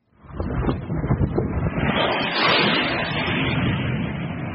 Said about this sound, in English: This is what Sudan's capital sounded like this weekend and today. The loud whir of jets followed by explosions.